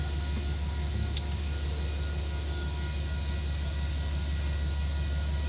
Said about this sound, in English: I hear that train a coming.